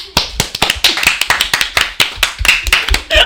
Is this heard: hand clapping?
yes